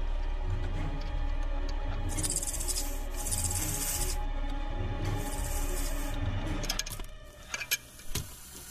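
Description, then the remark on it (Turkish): A snake hisses in two drawn-out, breathy bursts, each lasting a second or two, over a steady low droning background, followed by a few sharp scraping clicks near the end, as alcohol is thrown at the snake and a lighter is lit. “Alkolü yılanı doğru atıp çakmağı da ateşliyor.”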